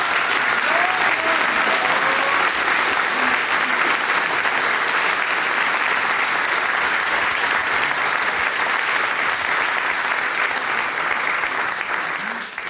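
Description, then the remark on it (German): Sustained, dense applause from an audience for Salzburger Hackbrett (hammered dulcimer) players on stage, loud and steady throughout with no clear rhythm, only easing slightly at the very end. “dann kriegt ihr jetzt einmal einen riesengroßen Applaus.”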